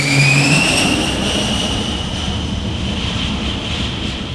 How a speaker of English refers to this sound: Handlers direct the planes to the steam-powered catapults, which fling the jets airborne in 2 seconds. When the planes return, they slam onto the 200-foot runway and catch one of 4 arresting wires with a tailhook and screech to a halt.